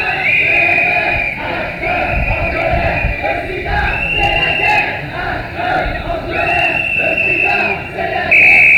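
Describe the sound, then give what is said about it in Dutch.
A large street demonstration crowd chants in unison as it marches into the Leidse straat, a loud, dense wall of voices with rhythmic surges, while a shrill sustained tone, like a whistle or siren, rises above it at intervals. “Het is in ieder geval een hele krachtige demonstratie.”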